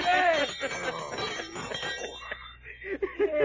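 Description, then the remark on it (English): A dinner gong rings with a bright, metallic tone that is loudest at the start and then rattles on unevenly, mixed with a voice and other clatter as it gradually thins out. “Well, this here, sir, is a dinner gong.”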